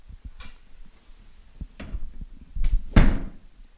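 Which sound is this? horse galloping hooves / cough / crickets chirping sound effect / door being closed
door being closed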